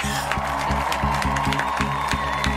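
Applause and cheering from a studio audience, a dense, steady wash of clapping with whoops mixed in, holding at an even loudness throughout with a repeating low rhythmic pulse underneath.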